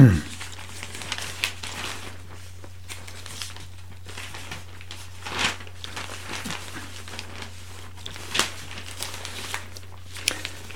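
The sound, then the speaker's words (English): Newspaper pages being turned to the insight page, with crinkly paper rustling in several short bursts over a steady low hum, moderately quiet. “now I'll turn to the insight page of the Gazette”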